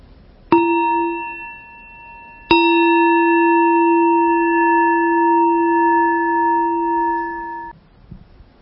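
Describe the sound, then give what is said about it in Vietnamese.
A meditation bell is struck twice, first a brief touch and then a full strike whose warm, mid-pitched tone rings out steadily for several seconds before stopping, with no talking. “Nghe tiếng chuông.”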